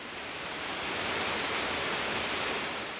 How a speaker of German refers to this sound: Das unheimliche Rauschen des wilden Bergwassers, der spärlich von oben eindringende Lichtschimmer, alles vereinte sich, die Sinne zu betäuben.